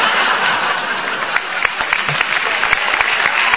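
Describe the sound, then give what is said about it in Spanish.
A crowd applauds steadily, dense overlapping claps forming a loud, crackling wash that lasts the whole time, with a few sharper individual claps poking out near the end. “Sí, pero ahora nos aplauden.”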